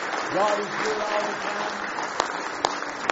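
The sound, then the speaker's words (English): An audience gives a hand clap of praise at a morning service, clapping together in a dense, steady wash of applause, with raised voices calling out over it early on, then thinning to a few scattered, sharp individual claps near the end. “Give him one more hand clap of praise if you love him this morning.”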